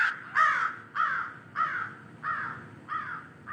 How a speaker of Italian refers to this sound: Quando finalmente riuscii ad appisolarmi, uno stormo di cornacchie si appollaiò proprio fuori dalla mia finestra e iniziò a gracchiare.